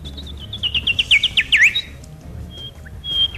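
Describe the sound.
A person imitates bird chirping, like the bird that chirps with a human voice on the show Dobro jutro deco: a quick run of about a dozen bright, descending tweets that speed up and grow louder, then a few faint, high, thin peeps after a pause.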